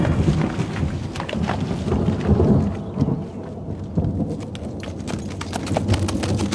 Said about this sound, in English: Won't mind a bit of rain, will you? No, not at all.